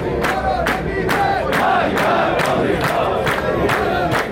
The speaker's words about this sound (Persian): شعارهای کارگران تجمع کننده این بود: سفره ما خالیه، ظلم و ستم کافیه. و یا عرضه کار ندارید، پست را کنار بذارید. کارگران معترض همچنین شعار دادند: حقوق ما رو نمیدن، مرگ بر آمریکا.